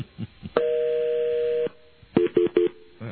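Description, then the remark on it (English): A steady telephone ringing tone sounds on the line for about a second on a call dialed to the wrong number, followed by three quick, short tone beeps in a row, with no talking. “Odd sound again. That is... Now it's ringing.”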